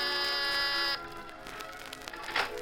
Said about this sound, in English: you've got your finger on the door buzzer of Mr. Carr's cloud-high penthouse apartment